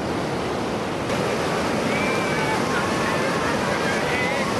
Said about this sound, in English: After instructions are given, it's time to head to the water. The ocean greets new surfers with very mild waves, perfect for beginners.